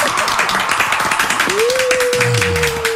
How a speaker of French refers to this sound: Allez, on applaudit, on applaudit.